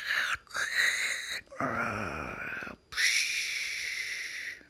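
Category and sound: vocal imitation, voice imitating snoring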